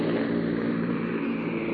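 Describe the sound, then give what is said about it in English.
A C-47 transport plane carrying paratroopers over the Netherlands drones steadily at reduced throttle, a loud, continuous low rumble with a rough, pulsing texture and no voices. “They're throttled back now.”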